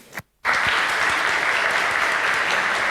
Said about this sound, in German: Einen kräftigen Applaus für FXRH, bitte.